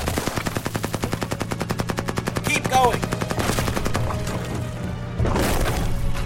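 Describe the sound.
A fighter jet attacking a fort: a rapid, steady stream of loud machine-gun fire for about three seconds, then crashing impacts and a sustained roaring rumble, with a voice briefly shouting over it.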